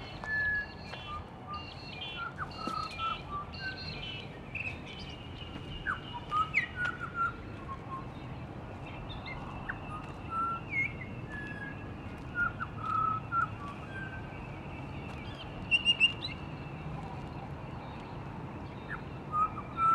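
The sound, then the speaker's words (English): A pied butcherbird sings scattered clear, whistled phrases that imitate other bird species, short varied notes and chirps over a steady wash of outdoor background noise, never loud. “I shared one of these when we discovered a pied butcherbird that mimicked other bird species, as well as various animal and man-made sounds.”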